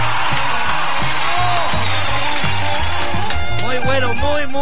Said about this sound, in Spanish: Oye, terminó el festival de imitaciones. Fuerte el aplauso para los participantes.